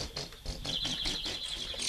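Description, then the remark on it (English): Caged birds at a bird-singing contest call in quick, repeated chirps, a fairly loud, steady run of high notes with a sustained trill toward the end, and no one talking. “And finally, if they get lucky, two birds start calling to each other.”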